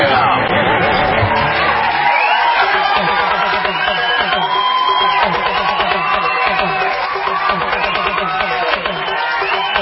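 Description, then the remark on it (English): A loud crowd cheers and claps continuously, with whoops and shouting voices rising over a dense wash of applause that stays steady from start to finish. “The sweet sound of applause.”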